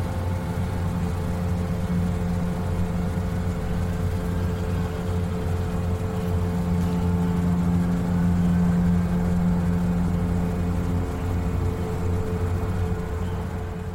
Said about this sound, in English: I'm picking up all sorts of stuff there. I'm hearing traffic noise, I'm hearing trains, I'm hearing sirens in the background, all that kind of thing.